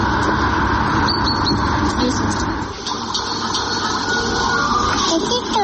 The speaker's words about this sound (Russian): Смотри, машина едет.